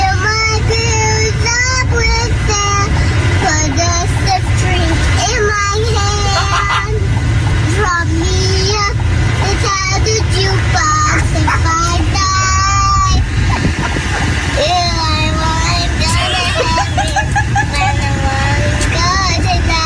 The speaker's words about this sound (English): Yeah. She was singing the national anthem.